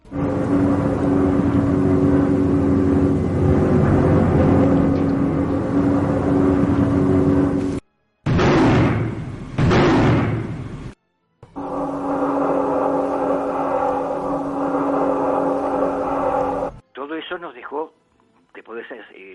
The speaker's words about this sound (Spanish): Vais a escuchar un tren de sonidos. Tenéis ruido de aviones, tenéis ruido de bombas y tenéis ruido de tanques.